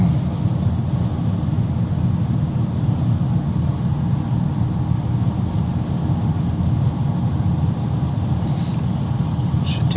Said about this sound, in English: Good old Schaefer truck passing by me here.